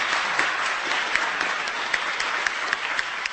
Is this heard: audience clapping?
yes